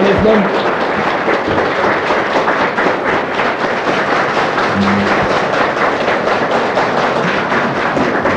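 A large audience applauds a song recording and its performer, a guest on the show, dense overlapping claps forming a loud, even roar that holds at the same level for the whole stretch without fading.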